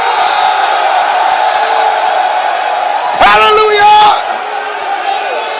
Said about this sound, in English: All the men shout yes. All the men stand up and scream.